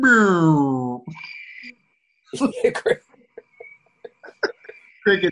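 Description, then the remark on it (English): A voice speaks briefly, then a steady, high-pitched cricket chirping starts and runs to the end, fairly faint, with short bursts of voices and laughter breaking in over it. “Crickets is good.”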